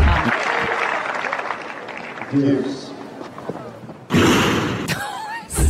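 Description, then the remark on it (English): A sudden loud crash of a ball kid at the 2016 Barcelona Open tennis tournament racing back to the back line and slamming into a metal-covered wall cuts through steady crowd murmur, followed by a rattling echo and another sharp thud near the end. “He goes to pick up a ball and then he races back to the back line and he bangs into the wall.”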